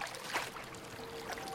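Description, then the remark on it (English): Soft, gentle sea waves slosh and lap continuously against a man's body as he clings to a floating box, with a couple of small splashes rising out of the steady wash, fairly quiet, with no voices. “Gentle waves splash at his lithe, sun-bronzed body.”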